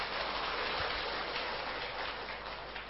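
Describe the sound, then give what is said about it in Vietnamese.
A steady round of applause from an audience at a program, given for a guest who had not yet arrived, dense and crackling with many hands clapping at once, holding at an even loudness for about three seconds with no voices. “Tuy anh chưa đến kịp, nhưng chúng ta cũng cho anh một tràng pháo tay.”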